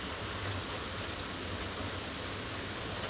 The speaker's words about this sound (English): I'm just sitting on my front porch drinking coffee in the rain. Just enjoying the noisy quiet.